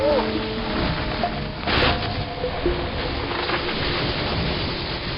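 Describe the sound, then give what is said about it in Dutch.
A deep, continuous earthquake rumble roars steadily throughout, with a louder crashing burst partway through as a tree falls; faint voices briefly sound at the start. “Daarop voer er een trilling door de bodem, zodat hij zich naar een oude eik haastte om te gaan schuilen, want hij begreep dat er sprake was van een aardbeving.”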